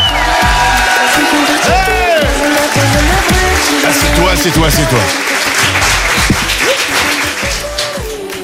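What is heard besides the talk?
audience applauding and cheering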